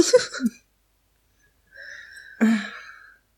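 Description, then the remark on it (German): A short, breathy cough, then after a pause a strained, raspy throat sound leading into a second harsher cough. No talking. “Hust.”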